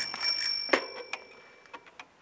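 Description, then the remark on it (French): A bicycle bell on a postman's bicycle rings with bright metallic dings, a sharp strike followed by a few lighter rings that fade out quickly, heard alone. “Demande un facteur à vélo.”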